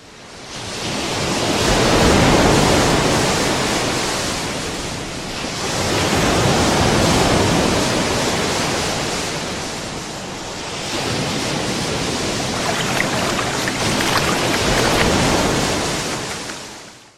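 Ocean waves wash onto a beach in three long, rolling surges, each swelling to a broad roar of surf before easing back, steady with no voices.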